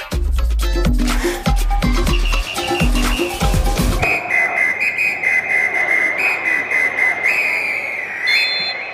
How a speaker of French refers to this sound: Les coups de sifflet des arbitres, aujourd'hui, c'est un peu dépassé. C'est d'abord devenu une décision collégiale. On ne siffle plus comme ça quand on veut.